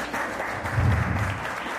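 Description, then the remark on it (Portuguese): Audience applause for the first five audience members who asked questions at a question session: a steady wash of many hands clapping at once, dense and continuous, swelling slightly in the middle before holding level to the end. “É, palmas aí, por favor”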